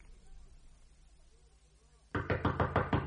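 After a quiet stretch, a rapid series of about six sharp, loud knocks by a friend on the door of Master Harebrain's house rings out in quick, slightly uneven succession.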